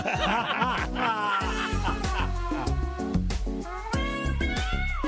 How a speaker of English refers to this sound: I see what happened now. The neighbor's cat is yelling at his cat through a screen. Yeah. Yeah. I'll say the cat sounds either angry or sick. That's like, keep away from me.